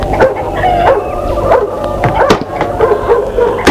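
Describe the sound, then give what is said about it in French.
A large, thin dog barks and growls in repeated sharp, loud bursts, with short yelps mixed into the rough, continuous snarling. “Le chien se retire en grognant.”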